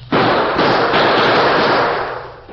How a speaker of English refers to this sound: Faced with an advancing wall of gunfire from the Redford sheriff and a group of excited townsmen, the Lone Ranger put his own guns into action to cover a retreat.